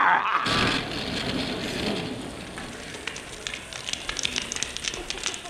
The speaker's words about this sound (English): then we burned your old drum on the bonfire.